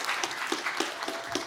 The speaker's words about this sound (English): There's nothing more awkward than leading people in worship and then people clapping for you, right? It's like when you clap after preach a sermon. It's like I don't know what to do with that.